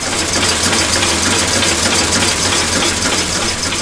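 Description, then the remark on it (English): A prototype single-cylinder diesel engine runs steadily on a bench in a CSIRO shed in Newcastle, a loud continuous clattering roar with a low rhythmic thump underneath, unchanging throughout with no voices. “all we have to show for it is a prototype single-cylinder diesel engine sitting on a bench at a CSIRO shed in Newcastle. When it's running, this is what it sounds like.”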